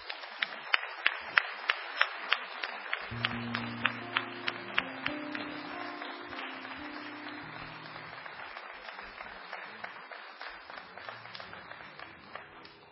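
An audience claps steadily for several seconds, a dense wash of hand claps with a few sharp individual claps standing out, while a low sustained tone hums underneath and the applause gradually thins. The applause welcomes a folk musician at a Sadaic concert.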